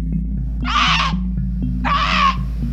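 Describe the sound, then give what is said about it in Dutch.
Two loud, harsh, raspy bird calls, each lasting about half a second and separated by a brief pause, cut through a steady low hum. The calls are mynas squawking in Singapore. “Miners, if they gather in numbers, they are very noisy.”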